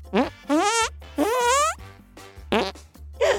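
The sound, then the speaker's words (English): A quick series of about five loud armpit fart noises, each a wet, buzzy blurt that rises in pitch, separated by brief pauses. “Before I took her class, I couldn't make farting noises with my armpit. Now listen.”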